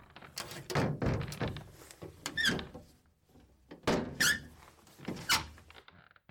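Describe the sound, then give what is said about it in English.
An old door in an old house creaks and thunks as its locked handle is tried several times, short squeaky creaks mixed with dull knocks in an uneven rhythm, with no voices. “The house is old, full of creaking boards and old doors.”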